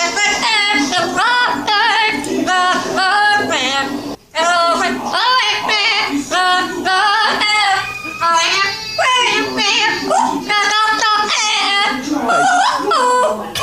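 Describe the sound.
A parrot sings a pop tune in a nasal, warbling voice, sliding between high pitches in a steady stream of mumbled, wordless phrases with one brief pause partway through.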